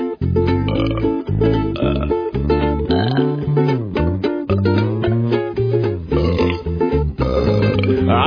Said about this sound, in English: I like to burp after some libation with lots of carbonation. I think it's cause for celebration. Yeah, I like to burp in social situations with much reverberation, causing others considerable consternation.